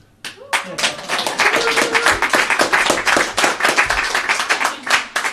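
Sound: audience applauding and cheering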